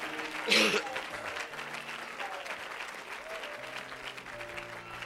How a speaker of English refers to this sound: Amen. Somebody shout Jesus. We say we love you. Let's give the Lord a great big hand clap of praise.